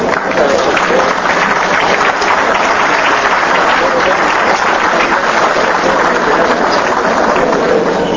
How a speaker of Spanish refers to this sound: Despedimos con un aplauso a los miembros de nuestro presidium.